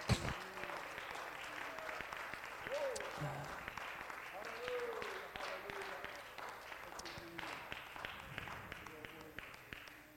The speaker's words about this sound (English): Hallelujah, hallelujah, hallelujah. I think it'd be all right if we just applaud the Lord for his goodness for a few moments.